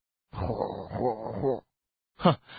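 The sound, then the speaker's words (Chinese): A performer imitates a man who has fallen asleep on a bed in a room shared by seven people and is snoring: one long, rough, rumbling inhale followed after a short pause by a brief nasal snort, fairly loud with no other talk. “不是吧，一下子你就睡着了还打呼噜。”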